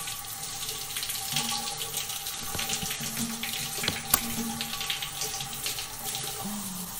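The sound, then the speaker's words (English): Warm shower water pours steadily amid steam, a continuous broad hiss of spray with small splashes and an occasional sharp drip or knock, no voices, the level holding even for the whole stretch. “Being fucked in the shower with warm water pouring over your body. With the steam all around you”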